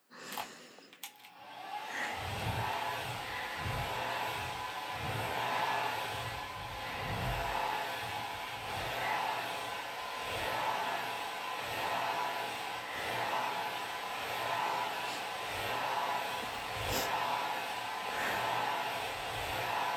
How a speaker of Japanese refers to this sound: はあ、もう頃合いですね。スプレーの液が寝癖に浸透していますので、ドライヤーで仕上げをしていきましょう。